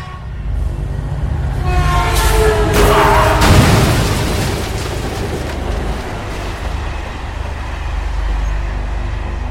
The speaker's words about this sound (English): Sparks and fire illuminated the area as the train crashed right into my car. The blast sent me flying backwards.